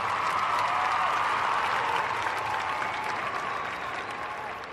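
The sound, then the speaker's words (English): Sustained applause from a crowd, a dense, steady wash of clapping that holds loud for several seconds and then tapers off slightly toward the end. “It was that great that I gotta give it an applause.”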